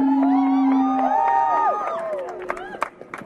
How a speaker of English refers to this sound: All right. One more cheer. Yeah!